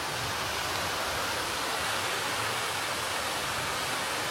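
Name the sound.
waterfall rushing water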